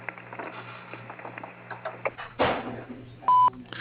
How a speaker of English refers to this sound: Please leave a detailed message as soon as you hear the beep, and someone will get back to you as soon as possible.